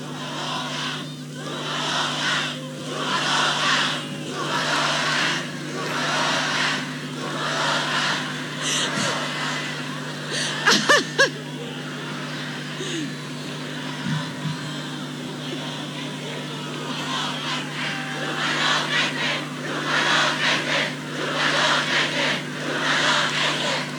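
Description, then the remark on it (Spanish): A crowd of supporters at the closing rally of official candidate's campaign shouts and chants in steady, rhythmic swells over a constant low hum, with a few sharp pops partway through. “Bien, ahí estamos escuchando los gritos de los adherentes en el acto, en el cierre de campaña de la candidata oficialista …, quien entre risas guarda silencio un momento y ahora sigue con su alocución.”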